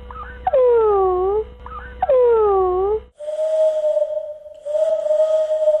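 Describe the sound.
Two swooping, falling cries over a low hum give way to a voice imitating an owl, holding two long, steady, mid-pitched hoots separated by a brief pause.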